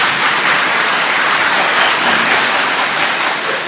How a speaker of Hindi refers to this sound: हाँ, फिर से ताली बजाओ.